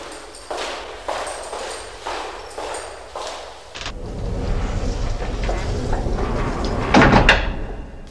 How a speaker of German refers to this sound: Schließt bitte hinter mir die Tür. Aus Sicherheitsgründen.